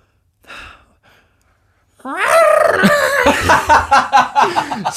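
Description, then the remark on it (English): After a short intake of breath, a person imitates a goat with a loud, strained, wavering cry that breaks into quick pulsing bleats for about three seconds. “I was trying to get the goat kind of...”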